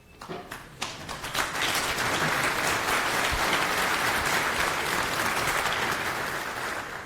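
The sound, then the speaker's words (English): Audience applause at the start of a talk on the Postgres and MySQL databases builds quickly from a few scattered claps into a dense, steady roar of many hands clapping, holding at a loud, even level for several seconds. “Keep clapping, I'm still clipping.”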